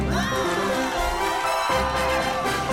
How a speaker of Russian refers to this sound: Аплодисменты. Да, аплодисменты.